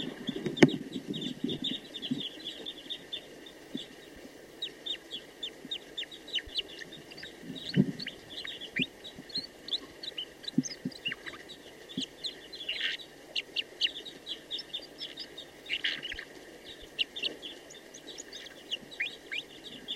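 A female bird sings steadily for the whole stretch, a busy run of short, high chirps and quick trills repeating without pause, with a few lower clucking bursts mixed in and no talking.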